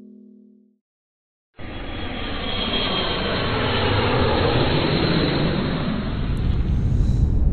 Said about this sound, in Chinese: 飞机已经起飞了，我现在正在飞往这个我的老家东北的路上。